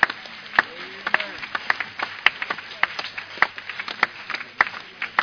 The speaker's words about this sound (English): Only a few people are clapping, the pastors and...